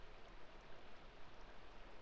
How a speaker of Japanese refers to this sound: では行ってみましょう。川の音、録音スタートです。